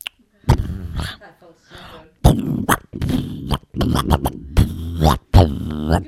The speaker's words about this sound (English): I just gotta blow my nose one more time.